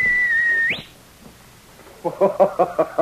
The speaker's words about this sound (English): Even as Sergeant Preston whistled for King, the sharp whistle that had always been a signal between the two of them, the Mountie wondered and hoped.